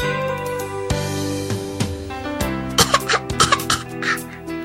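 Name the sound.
coughing from cigarette smoke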